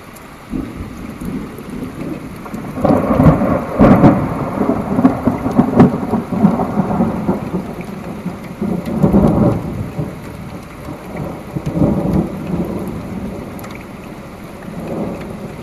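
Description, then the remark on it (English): Deep thunder rumbles roll in several swells over a steady hiss of heavy rain, the loudest surges building and fading slowly, with the storm overhead and lightning flashing. No one speaks. “does heavy rain usually slow down before a large thunder?”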